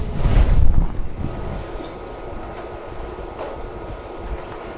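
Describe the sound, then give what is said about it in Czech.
A refrigerator hums with a steady, low droning rumble. A louder surge at the start settles into an even, continuous drone with no voices. “Hůčí lednička.”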